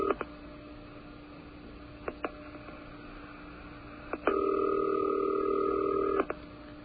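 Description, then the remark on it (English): A telephone ringing tone on the line during a call to a television station in Buffalo: one steady two-second ring burst, heard through a thin phone connection with a faint continuous hum and a few clicks, and no one speaking. “And it's ringing.”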